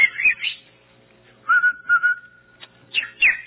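A person whistles a short tune, with quick swooping notes, then a long steady held tone, and a final pair of rising-falling chirps. No one talks over it.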